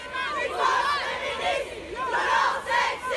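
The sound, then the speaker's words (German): A large protest crowd chants slogans outside the Salle Pleyel in France after the César awards ceremony, where Roman Polanski's film J'accuse won, with several hundred people answering a call by feminist organizations. Loud, overlapping voices swell in two rhythmic surges before dipping briefly and rising again. “Es war der dritte César für Polanskis Film J'accuse an diesem Abend und wie bereits vor der Preisverleihung gab es auch danach große Proteste.”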